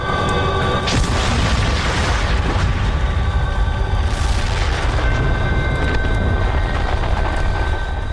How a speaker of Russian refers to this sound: И в этот момент ударил взрыв.